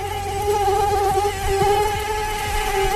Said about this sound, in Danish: Det er nemlig myggene, som i fremtiden kommer med sygdomme.